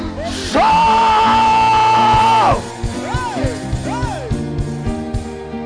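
A church audience shouting together, led by one long, loud sustained cry lasting about two seconds, then several shorter rising-and-falling yells over a dense backdrop of crowd noise.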